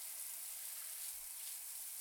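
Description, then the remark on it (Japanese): Steady hiss of shower water spraying continuously, a bright, dense wash of noise with no pauses and no voices. “シャワーでもこんなよく感じるんだから、 今度は波の音とか川の音とかも聞きに行きたいね。”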